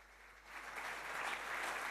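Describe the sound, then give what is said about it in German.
Audience applause at a talk, a dense crackle of many hands clapping that swells after the first half-second and stays steady and fairly loud, with no voices over it. “Applaus.”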